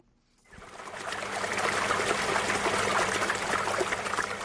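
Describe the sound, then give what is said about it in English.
Spring water trickles and bubbles steadily on a farm north of Johannesburg, South Africa, in the shadow of the Magaliesberg Mountains, a continuous babbling flow that rises in after a brief quiet start and carries on with no voices. “Fresh spring water nourishes New Harmony Farm north of Johannesburg in the shadow of the Magaliesberg Mountains.”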